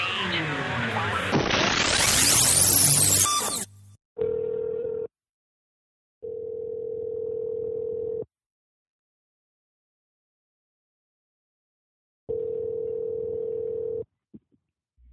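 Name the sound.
outgoing phone call ringing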